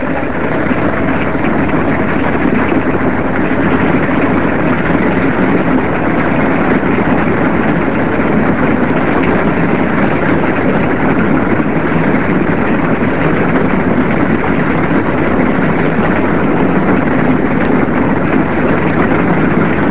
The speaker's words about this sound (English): at the Oval, Don Bradman played his last test match. Rex Alston described the scene as he came in to bat. Here's the applause for Bradman as he comes in.